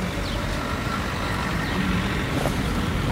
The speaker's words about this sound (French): Les premiers camions arrivent. quelques voitures